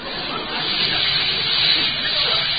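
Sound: shower water running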